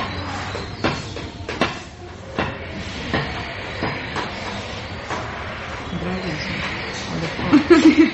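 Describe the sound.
A vacuum cleaner runs steadily, a broad whooshing hiss with a few sharp knocks and clatters over it, and a brief murmur of voices toward the end.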